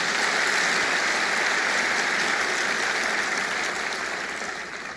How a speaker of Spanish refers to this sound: ¿Cuántos dicen aleluya? Dar un aplauso a Jesús.